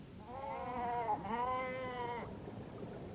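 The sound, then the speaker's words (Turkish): Goats and sheep bleat in a drawn-out, quavering call that breaks briefly in the middle and carries on, clear, with no talking. “Hemen koyun, keçi, deve, at, sığır satın aldı.”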